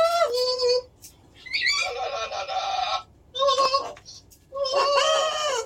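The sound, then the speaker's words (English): A pet bird squawks loudly in four harsh, drawn-out bursts, with short pauses between the raspy, screechy calls. “Sometimes, it's just nice to have a friend to squawk on the phone with.”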